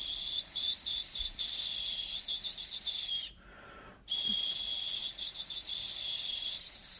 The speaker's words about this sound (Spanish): Podían hacer música, podían atraer a las aves para cazarlas, porque han reproducido una de estas flautitas, han hecho el sonido de esta flauta, lo que estaban escuchando los natufienses hace 12.000 años. Y sonaba, suena esta flautita.